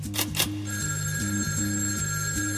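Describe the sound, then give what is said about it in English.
A telephone rings with a warbling, stepping electronic tone that repeats steadily and fills the short stretch, fairly loud, with no one speaking. “The phone rang again.”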